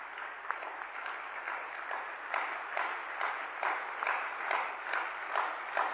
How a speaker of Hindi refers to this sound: अभी जोरदार ताली बजा देंगे अपने लिए।